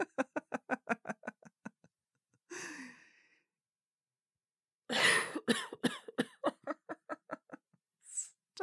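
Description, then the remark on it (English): A woman laughs in quick breathy pulses, then breaks into a harsh cough; after a pause, a fit of rough coughs dissolves back into rapid laughter, ending with one more short cough. “You both laugh, though you try not to joke too much because laughing makes her cough a lot.”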